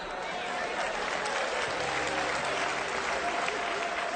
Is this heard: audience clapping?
yes